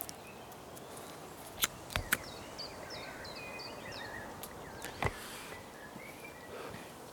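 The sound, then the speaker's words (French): Faint birdsong: a quick run of repeated high chirps and a few scattered whistles over a quiet outdoor hush, with occasional sharp clicks or steps. “Il n'y a pas beaucoup d'oiseaux non plus, non? Ça chante un peu”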